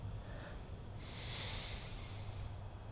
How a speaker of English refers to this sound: And you hear also, you hear the sound of nature, the crickets, mosquitoes here and there, and from far away, the cars passing by. So we are in the heart of the city, but still it's like being in the country.